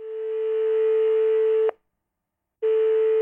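A telephone ringback tone: a steady, clear electronic tone sounds for under two seconds, pauses briefly, then starts again. It's heard alone with no voices.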